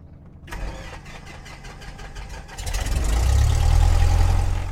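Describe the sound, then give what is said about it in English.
A light aircraft's propeller engine is started after the pre-flight checklist for a practice flight of about an hour one morning; it cranks with a rapid, rhythmic chugging for about two seconds, then catches and roars into a loud, steady, low-pitched drone. No one speaks. “Clear prop.”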